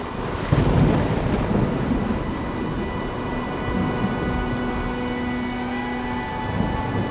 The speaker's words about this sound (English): The winds begin to whistle. The rain begins to pour. The storm around you howls.